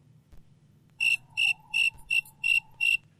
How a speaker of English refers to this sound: That was just the crickets up in northern Canada, I bet.